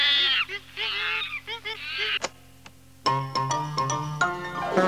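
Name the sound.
chimpanzees calling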